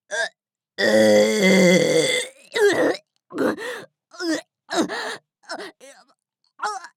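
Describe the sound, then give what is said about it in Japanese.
A person strains to burp, letting out one long, loud, groaning belch, followed by a series of short, breathy grunts and gasps. “ゲップの反動で胃の中が苦しそうになって本当にやばいか。”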